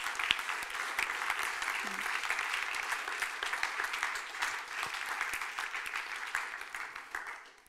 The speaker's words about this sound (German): Und hey, würde ich euch bitten, würdet ihr mit mir zusammen einen Applaus geben, dem Team, das das organisiert hat. Das wäre mega cool. Merci vielmals.